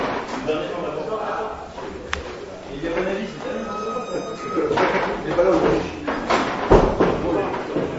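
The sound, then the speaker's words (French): A door is pushed shut with a dull thud, preceded by a lighter knock, while people murmur and shuffle. “Si vous fermez la porte, ça sera encore mieux.”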